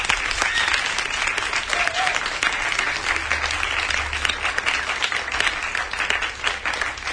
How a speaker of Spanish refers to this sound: Pues, ¿qué os parece si nos damos todos un aplauso y todas un aplauso?